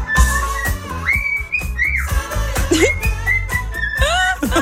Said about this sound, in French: Et alors, attends, regarde. Pause, attention. Ouais, il fait une et puis, pause. Et... il s'enjaille, il est de bonne humeur ce petit oiseau. Faut le laisser, attends.